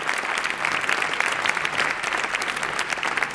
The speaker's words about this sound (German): Dankeschön. Vielen Dank Dankeschön. Und großen Applaus.